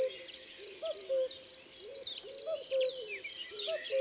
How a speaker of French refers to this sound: Le coucou non plus n'a pas un chant très varié.